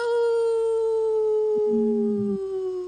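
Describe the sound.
A person imitates a wolf howl, one long sustained tone held for nearly three seconds, sliding slightly downward, loud, with a faint lower voice briefly underneath near the end.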